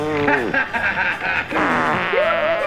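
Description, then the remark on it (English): A voice imitates a fart with the mouth, blowing a low, buzzy, raspberry-like sputter that wavers in pitch over about three seconds, fairly loud, with no other sounds around it. “emitted a low farting noise.”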